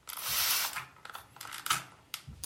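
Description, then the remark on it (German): A spray bottle trigger is squeezed several times, starting with one longer hissing spritz followed by a few shorter, sharper sprays with faint plastic clicks of the handle snapping back, no voices. “Bei dem besagten Geräusch handelt es sich um eine Sprühflasche.”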